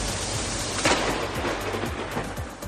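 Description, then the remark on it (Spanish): Heavy rain pours down steadily in a thunderstorm in the province of Valencia, Spain, with a sharp crack of thunder and low rumbles rolling underneath, loud and dense throughout with no voices; brief but intense downpours and lightning across much of the province, 36 litres falling in Navarrés. “Este es el susto que tuvimos ayer con esa lluvia intensa y esos rayos que recorrieron buena parte de la provincia, con unas lluvias no muy largas, pero sí intensas en cuanto a cantidad.”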